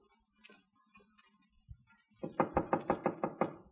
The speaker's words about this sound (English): Wise guy knocking on his own door. Is that a signal to you?